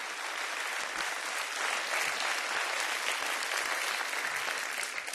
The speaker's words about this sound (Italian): Facciamo un applauso ai tecnici che sono meravigliosi.